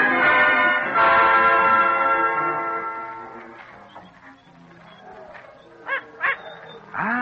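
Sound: small dog barking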